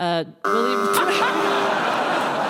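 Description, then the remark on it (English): A brief electronic buzzer tone, a split-second gap, then two game-show buzzers blaring together, loud and steady for about two seconds, with voices faintly underneath, as two quiz contestants buzz in simultaneously. “I've got two buzzers simultaneously going, which has never under my tenure happened before.”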